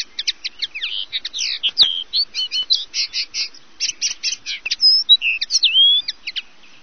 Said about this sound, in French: On écoutait la linotte mélodieuse sur Radio Campus Amiens